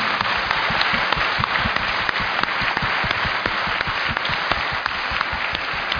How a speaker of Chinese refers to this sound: 现在这些服侍的人员因为下面比较黑哈，我们看不太清楚，但是等我现在说完以后呢，先请这些服侍人员站起来，我们真的是要感谢你的付出。 好，我们一起鼓掌多谢。